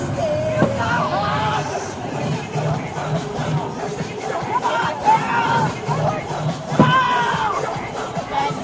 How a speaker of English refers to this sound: She's screaming, "Come on, girls! Go!" And she's wearing a glittery, like, hula skirt over her clothes, right? She's leaning over the stadium balcony and just screaming at these girls to go! Cheer your little hearts out! She's stomping.